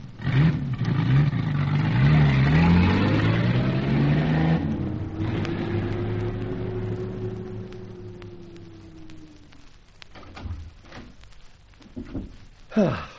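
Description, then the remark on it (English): A car engine revs loudly, its pitch rising and falling, then the car pulls away and the engine note slides and fades, leaving scattered clicks and knocks. “Better drive the car on.”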